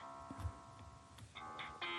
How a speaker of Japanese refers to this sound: そうそう、これ電話かかってくるんですよね。さらったぞ、つって。